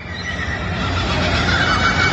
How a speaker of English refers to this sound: here is the dawn chorus from down under in Sydney, Australia. Indian minna birds, Australian finches, and kookaburras. Enjoy, and hopefully you can showcase them on the Baseball Tonight podcast. Here is the sound.